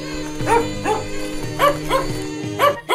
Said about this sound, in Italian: Da quel momento ogni verso di qualsiasi animale non ebbe più segreti per quell'uomo e si divertiva un mondo nel sentire i cagnolini che litigavano contendendosi un osso.